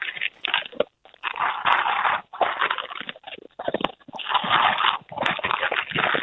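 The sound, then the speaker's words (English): Jackie, a small female dog, crunches dry biscuits from a dog bowl, with loud, gritty bursts of chewing in an uneven rhythm broken by brief pauses. Nobody speaks. “Now, if you could put that in front of Jackie and then hold the phone down there, just so we can hear her eating habits, that'd be good.”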